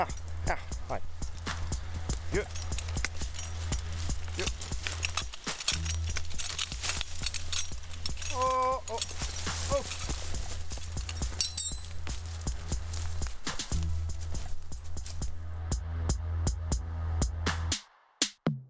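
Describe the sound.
Heavy hooves of a working draft horse clop repeatedly over a steady low rumble, with faint voices in the background and a brief pause near the end.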